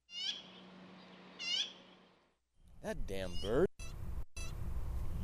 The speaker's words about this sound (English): That damn bird.